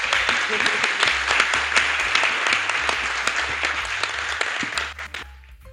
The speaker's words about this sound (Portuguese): Uma salva de palmas